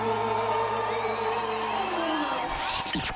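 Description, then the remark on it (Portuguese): A loud crowd of football fans roars and cheers continuously, a dense wash of many voices shouting, with a rising whoosh sweeping up at the end, in a Nova Cidade radio jingle for the 2026 World Cup. “Torcida aumenta! E o volume também!”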